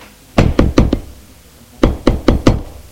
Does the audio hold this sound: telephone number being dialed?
no